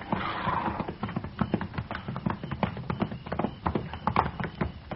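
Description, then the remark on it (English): Several horses clip-clop steadily at a walk as riders approach a hunter's camp when it is almost dark, their hooves thudding and knocking in an irregular overlapping rhythm, moderately loud, with no voices over them. “We just gonna ride right up to him, Mr.”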